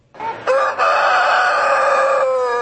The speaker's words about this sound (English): Look out, a good old-fashioned rooster crowing contest. What, you've never been to one? Well, here's how it works. The feathery contestants get 30 minutes to try to be the squawk of the town. Rooster with the most crows wins.